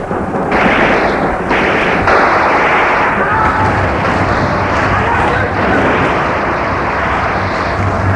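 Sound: gunshots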